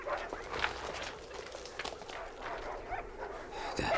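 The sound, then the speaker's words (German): Several sled dogs bark and whine in short, overlapping bursts after their sled stops near a hut as a snowstorm eases, with shuffling steps and movement in the background; no clear talking. “Das sind unsere Hunde.”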